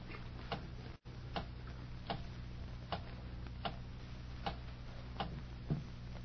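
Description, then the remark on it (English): A clock ticks steadily, each sharp tick spaced evenly about every three-quarters of a second, clear over a low constant hum with no voices. “Now be quiet and watch the clock.”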